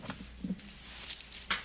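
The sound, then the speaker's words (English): A set of keys jangles in a few short bright bursts, metallic clinks shaking and settling, with no voices. “Will you give me the keys?”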